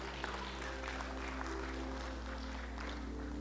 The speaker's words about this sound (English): Praise the Lord. Let's give a good clap offering to the Lord.